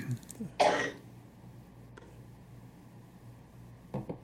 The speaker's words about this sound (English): I was just coughing. Sorry.